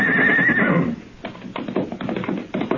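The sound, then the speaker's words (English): A horse that has just seen people gives a loud, wavering whinny, then its hooves break into quick, rhythmic galloping thuds as it runs off, with no voices. “His horse saw us and ran.”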